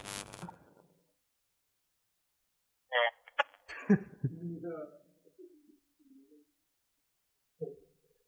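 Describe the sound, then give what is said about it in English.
An odd telephone ring tone plays: a harsh burst, a pause, then a warbling, cooing run of tones that trails off, ending with one short blip. “Wait, this is one of the weird rings. Yeah. Where it's just, you think that they hung up or something.”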